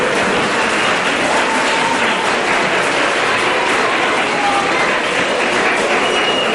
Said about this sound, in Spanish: Un aplauso.